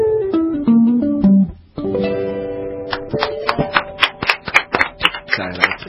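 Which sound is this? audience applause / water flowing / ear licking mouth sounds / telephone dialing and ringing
audience applause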